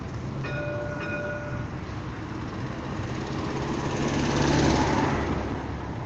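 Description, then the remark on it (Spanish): A tram rumbles steadily and loudly along its rails. A short high-pitched tonal squeal rings out near the start, and the rolling noise swells as it draws nearer toward the end. “Entonces nosotros tenemos con personal técnico capacitado para poder atender cualquier contingente de tipo mecánico en el tranvía.”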